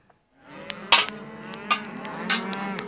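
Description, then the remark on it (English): Cattle on a ranch in Harney County, southeast Oregon, low in long, drawn-out moos that overlap one another, with a few sharp knocks and clatters scattered through. The sound is steady, and no one speaks. “And before these cattle can be let out to graze on summer range, the young animals have to be branded, castrated, and vaccinated.”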